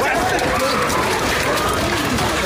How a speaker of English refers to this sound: So background noise from the melee that happened at the Vegas hotel.